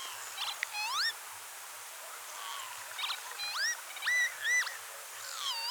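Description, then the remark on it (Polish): A northern lapwing calls repeatedly, giving several wheezy, upward-sliding cries at irregular intervals, fairly clear against a faint, steady background hiss with no talking. “Proszę bardzo nie przerywać na antenie, ale chociaż dla czajki można zrobić wszystko, można nawet przerwać program, naprawdę.”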